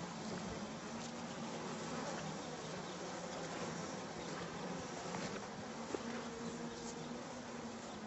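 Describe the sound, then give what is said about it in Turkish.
Flies buzz steadily all around in a forest as someone walks among them, a continuous dense insect drone with a low hum, no voices, the buzzing staying fairly even throughout. “Ormanın içine girerek uçuşan sineklerin arasında yürümeye devam etti.”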